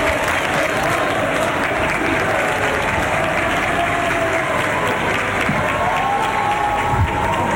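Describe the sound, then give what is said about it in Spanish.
Steady, dense applause from a large crowd inside the Palacio de la Moneda, with scattered cheers and voices rising through the continuous clapping; people, including palace workers and girls, hold flags and take photographs. “Varias personas, ustedes las están viendo con varias banderas, aplausos, fotografías, hay niñas también, bueno, son parte de los trabajadores acá del Palacio de la Moneda”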